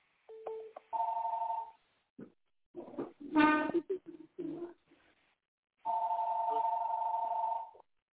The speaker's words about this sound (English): I'll just let the call go on and stop ringing.